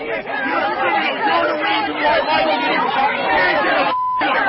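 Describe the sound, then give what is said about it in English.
A large crowd shouts "traitor" together at Trudeau and his security detail in a steady, dense roar of overlapping voices that never lets up, with a brief high-pitched beep cutting in just before the end. “And all those guys that are defending Trudeau and his crimes against the innocent, they're shouting in unison, traitor.”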